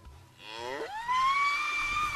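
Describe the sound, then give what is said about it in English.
A single cow, one of a herd of cattle being brought home, moos once, a drawn-out bellow that rises in pitch and then holds steady, fairly loud with no one talking. “But let's join Gulu and Lawi as they return home with half their father's cattle.”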